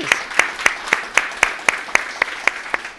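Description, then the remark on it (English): Steady, rhythmic clapping for God over a bank's yearly support of the school, about eleven sharp claps in an even beat at roughly four per second, moderately loud, with a soft wash of background noise and no clear talking. “Can we just clap for God on that?”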